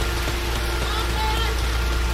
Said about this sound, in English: It's the wall of rain.